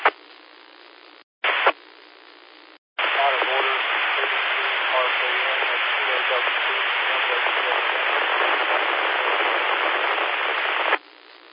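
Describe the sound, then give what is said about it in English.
A faint voice checking in on the Blue Ridge 2-meter net comes through a two-way radio, nearly buried under loud, steady static hiss, after a few short squelch bursts at the start. “That last station that was checked in, you were way down in the noise.”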